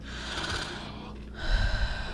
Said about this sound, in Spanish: respire así. Fuerte. Poquitito más fuerte.